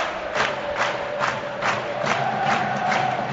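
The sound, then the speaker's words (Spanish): A large football stadium crowd at El Alcoraz in Huesca, Spain, roars in an ovation at the end of the match after Huesca beat Elche 2-0: a dense, steady wash of cheering, with rhythmic pulses of clapping or chanting repeating roughly every half second throughout. “Con todo el mundo esperando la ovación final que se va a llevar este Huesca después de este partido fantástico.”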